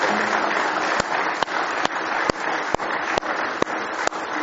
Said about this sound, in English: Somebody say, praise the Lord. Let's give Him a big hand clap of praise this morning.